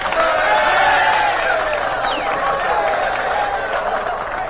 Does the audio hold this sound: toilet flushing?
no